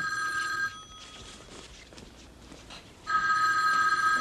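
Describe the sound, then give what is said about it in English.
A telephone bell rings loudly in two bursts, with a pause of quieter background sound between them. Nobody speaks. “Phone.”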